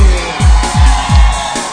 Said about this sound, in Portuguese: Especial para a mulherada. Cadê o grito da mulherada aí?